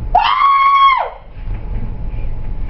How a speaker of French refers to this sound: La mère qui crie.